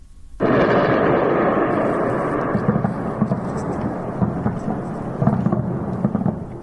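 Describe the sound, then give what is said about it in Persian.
A sudden deep boom opens into a long rolling rumble, with several more muffled thuds of distant explosions echoing through it, recorded at night in Tehran, Iran, heard from far away with no voices. “خب تا حدود ساعت 5 صبح رسانه‌های ایران از وقوع چندین انفجار خبر دادن که علاوه بر تهران پایگاه‌های نظامی اطرافش و چند شهر دیگر رو هم به نوشته این رسانه‌ها تحت تاثیر قرار داده بود.”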